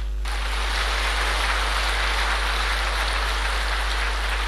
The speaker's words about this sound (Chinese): 台长说那是当时的会场鼓掌